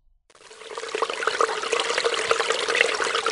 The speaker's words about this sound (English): Fill the glass with water. Now the glass is filled with water.